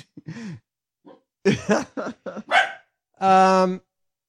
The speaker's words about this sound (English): From the, I think the Basset Hound influence. You didn't have that. And I think she resets her lip after she's done woofing.